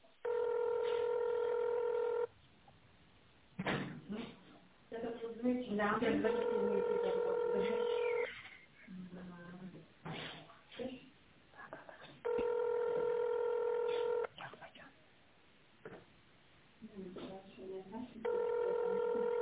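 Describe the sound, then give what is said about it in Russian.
A call to the Ogni Sibiri residential quarter rings back in steady, buzzy two-second tones, repeating about every five seconds, while a recorded Russian greeting says a specialist will answer within seconds and the call will be recorded, over the narrow, tinny telephone sound. “Специалист вам ответит в ближайшие несколько секунд.”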